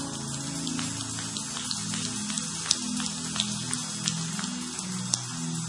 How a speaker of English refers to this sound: give them a great clap offering. Come on.